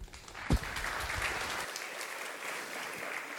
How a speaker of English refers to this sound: And so please give a very warm applause